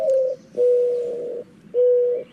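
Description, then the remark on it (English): A soft, low, hollow cooing: a short opening note followed by two long, steady drawn-out coos, mellow and mournful in tone, heard clearly with no talking. “It does sound mournful.”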